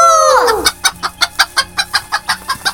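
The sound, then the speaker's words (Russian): A person imitates a rooster crow that ends in a falling, drawn-out wail, followed by a quick, steady series of about ten sharp clucks, fairly loud, with no talking. “Кукареку!”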